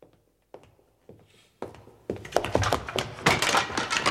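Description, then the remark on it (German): A few separate wooden thuds, then a rising, continuous clatter and crashing as stacked boxes topple and tumble over one another, loud and jumbled until the end. “Zum Kuckuck, jetzt sind die ganzen Kisten umgefallen.”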